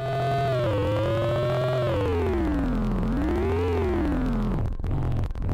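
A janky video game sound effect meant to be a car: a crude, buzzy synthesized engine tone with stacked harmonics, steadily loud, its pitch wobbling up and down in slow swoops like a cheap car revving, with no talking.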